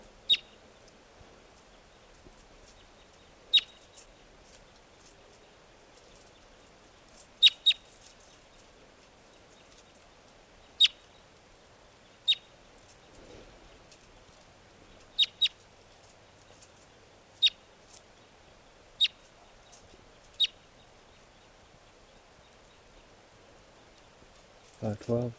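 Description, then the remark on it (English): A wild bird, one of several up in the trees near a net, gives about ten short, sharp, high-pitched chirps at irregular intervals, some in quick pairs, over a faint steady background hum, with a brief rustling thump at the very end. “Recording the wild birds are still here, up in the trees near the net. This is one of them calling.”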